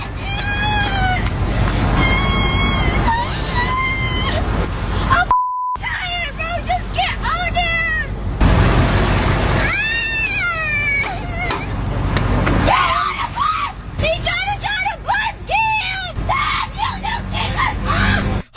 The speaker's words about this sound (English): And I've just kind of cut out all the not important parts and created kind of like a montage of her yelling and crying. So here we go. Is that a dying animal?